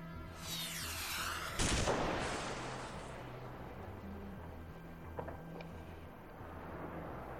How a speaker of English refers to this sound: Outside of this house, the district of Fanjatan was silent in the night. It was about 2 hours past midnight when the sound of a missile broke the silence.